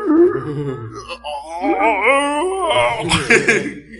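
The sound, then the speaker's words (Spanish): A man's voice imitates zombie breathing, letting out drawn-out wavering moans and groans mixed with raspy, breathy exhales, loud, with no actual words. “danos una respiración de zombie, por favor.”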